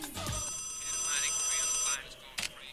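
A telephone rings with a single sustained electronic trill lasting over a second, then cuts off, followed by faint background noise and a brief clatter.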